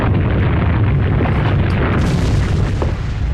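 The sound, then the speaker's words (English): A loud, sustained low rumble shakes continuously for a few seconds, a dense booming roar like a video game earthquake, with no voices over it. “There are no more earthquakes in this room once you clear that.”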